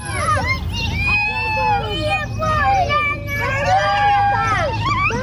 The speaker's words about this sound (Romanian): Suntem în localitatea Fârlădeni, raionul Căușeni, la 60 de kilometri de Chișinău. În fața singurei grădinițe din localitate încep să se adune copiii. În timp ce unii așteaptă timizi să înceapă programul obișnuit al zilei, alții trec imediat la joacă.